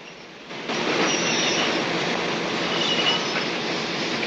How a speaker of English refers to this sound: As the train pulls to a stop, he opens the door for an elderly lady who scurries across the platform.